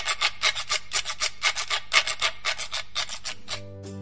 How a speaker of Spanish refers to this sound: Otro instrumento es la carraca, también llamada quijada de burro. Eran elaboradas con quijadas de animales como caballos o burros.